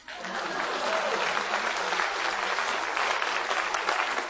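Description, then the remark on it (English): A crowd breaks into steady, dense applause after a joke, holding at an even level for several seconds, many hands clapping together. “Please clap.”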